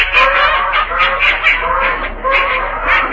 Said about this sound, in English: Oh, boy, get a load of those ducks.